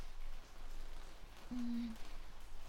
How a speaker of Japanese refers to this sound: しかし、なかなかやまないっすね、雨。